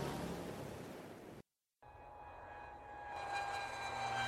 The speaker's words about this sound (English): This is a plane. It takes people to many different places.